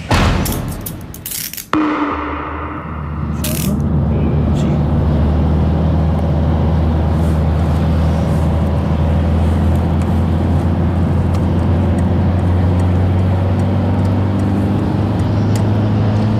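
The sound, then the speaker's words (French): A heavy truck rumbles loudly along the road, its deep engine drone and tire roar filling the whole stretch after a few sharp knocks at the start. “Camion, hein.”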